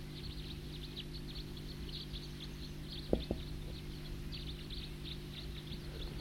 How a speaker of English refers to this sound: That's the tooper. Loud. And some type 2s I think are coming in. The bird that was tooping is now in song.